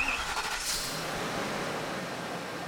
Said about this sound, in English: Some people loaded up into the church bus, while others got into their own cars. The Soul Train hit the road.